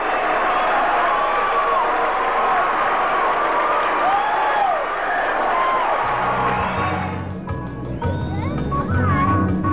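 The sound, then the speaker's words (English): A baseball stadium crowd of some 7,000 to 9,000 people roars loudly after a hit, with scattered whoops and cheers, a dense wall of voices that holds steady before shifting toward a quieter, lower murmur near the end. “you're just hearing that crowd, 7,000, 8,000, 9,000 people just roar.”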